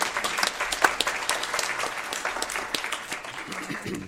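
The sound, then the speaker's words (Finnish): An audience applauds a speaker after a talk on teacher education, many hands clapping in a dense, continuous patter that fills the whole stretch and tapers slightly toward the end. “Annetaan nyt aplodit sen täällä.”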